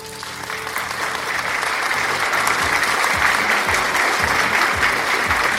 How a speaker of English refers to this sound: Clap it up, y'all. Clap it up wherever you are right now. Clap it up. Help me clap.